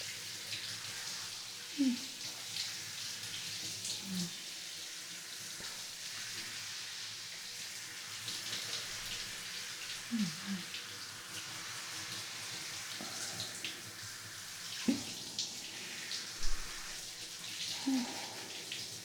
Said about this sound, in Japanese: それじゃ、目つぶっててね。今シャワーで洗い流すから、目開けると痛いからね。さて、失礼します。しっかり洗い落として、きりしようね。泡が残んないように。